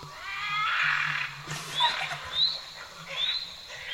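A bobcat gives a harsh, wavering yowl with a strained, raspy tone, then a string of shorter rising squalls and chirps, moderately loud with no talking.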